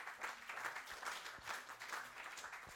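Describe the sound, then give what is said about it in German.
Warm applause from an audience welcoming the evening's guests, a steady dense wash of many hands clapping at an even level throughout, with no voices on top. “Aber ich denke, wir können uns mal empfangen mit einem warmen Applaus sagen.”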